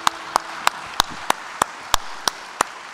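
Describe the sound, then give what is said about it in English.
An audience claps in rejoicing, a steady rhythm of about ten sharp, crisp claps evenly spaced at a quick beat over three seconds, with no voices and only faint noise between the claps. “You have to clap over something like that and rejoice, don't you?”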